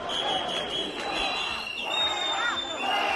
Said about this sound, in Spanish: A la llegada de Pedro Sánchez, abucheos.